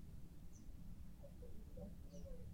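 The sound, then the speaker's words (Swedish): Monkeys let out faint, high squeaky shrieks in a few short bursts over a low, steady background rumble, with no one talking; there are monkeys everywhere around. “Det är som att någon stryper en papegoja typ. Ja, eller typ en liten valp. Eller typ, men gud. Hörrni, här. Det är apor överallt.”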